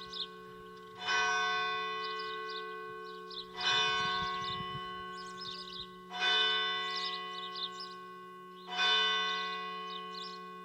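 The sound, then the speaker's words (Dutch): A large church bell of a long-established praying community tolls four times at a slow, even pace, each strike ringing out with a rich, sustained metallic hum that fades before the next. No one speaks. “En zo konden we toch even luisteren naar dat geluid van die klok, die een beetje als het kloppende hart is bijna van deze biddende gemeenschap die hier al zoveel jaren aanwezig is.”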